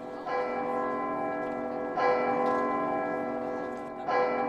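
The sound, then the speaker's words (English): The large bell of Holy Trinity priory church in medieval Dublin, around 1320, booms from its belfry across the city, struck three times about two seconds apart, each deep, resonant toll ringing on and overlapping the next, with no voices. “High up in its belfry, its bell booms out across the city.”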